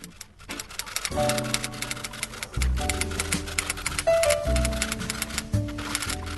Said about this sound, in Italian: Dite sulla tastiera.